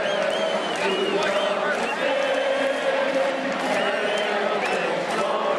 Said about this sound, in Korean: 경기 앞서 열띤 응원을 펼치는 관중들의 함성을 들어보셨는데요.